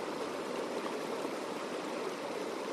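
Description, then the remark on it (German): The glacier-fed Rio Juncal in the Andes rushes steadily from the glacier down into the valley, a dense, even roar of churning water that stays constant throughout with no voices. “Vom Gletscher aus fließt der Rio Juncal ins Tal.”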